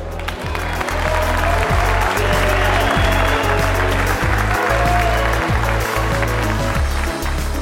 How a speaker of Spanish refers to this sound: Al final, todos son dignos de aplausos, aunque sean digitales, por su participación y apoyo.